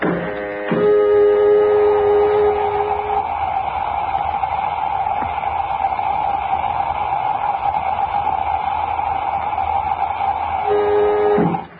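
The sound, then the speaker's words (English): A spacecraft airlock filling: a steady, loud rushing hiss with a low mechanical hum holds for about eleven seconds, bracketed by brief tonal clunks as it starts and stops. “Filling airlock.”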